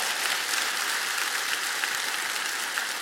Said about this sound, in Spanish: Vamos a dar un aplauso al Señor rápido, por favor.